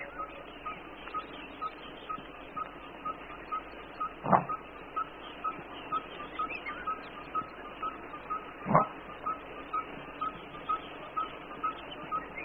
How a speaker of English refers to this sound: Disturbed by the presence of the lions, a large Nyala bull gives his rarely heard echo bark.